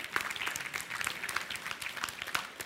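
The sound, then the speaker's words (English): A church audience breaks into steady applause for 10 salvations recorded in April morning services, many hands clapping together in a dense, even wash of sound that stays fairly moderate in loudness throughout. “Yeah, you can clap.”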